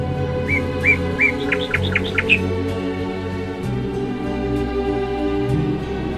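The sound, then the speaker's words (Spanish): Small birds chirp and tweet in a quick burst of bright, repeated calls lasting about two seconds, then fall silent, leaving a steady low background hum. “Pues que los pajaritos se las habían comido todas.”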